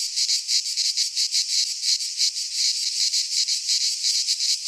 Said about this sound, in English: Cicadas and mourning doves. Whew, those are some nice sounds.